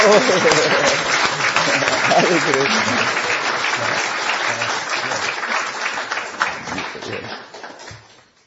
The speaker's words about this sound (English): For now I request you to give a loving applause